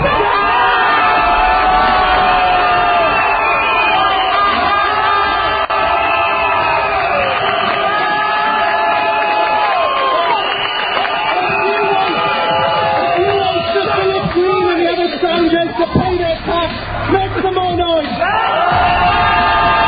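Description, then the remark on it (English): A large strike rally crowd cheers and shouts loudly and steadily, a dense roar of many voices with whoops and high yells rising above it throughout, briefly swelling toward the end. “If you want to take action together, make some noise.”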